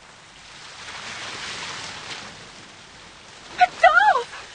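Waves wash steadily onto a sandy shore in a soft, continuous hiss that swells gently and ebbs. Near the end, a voice cuts in briefly over the surf.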